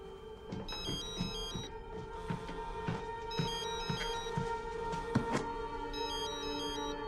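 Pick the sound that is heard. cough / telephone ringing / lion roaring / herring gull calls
telephone ringing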